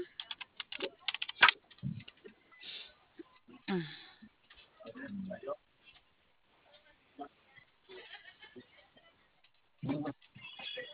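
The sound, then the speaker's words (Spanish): Irregular bursts of clicking keystrokes on a computer keyboard, with pauses between flurries and some muffled voice-like sounds mixed in. “¿Qué te prende en tu teclado?”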